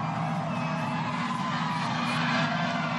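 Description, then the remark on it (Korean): A dense, steady roar of a big outdoor crowd of over a million people cheering at a New York City parade welcoming champions, with music and citizens' horn blasts droning through the din. Loud and continuous throughout, no single voice standing out. “음악 소리, 환호 소리, 시민들의 뿔피리 소리가 들리십니까?”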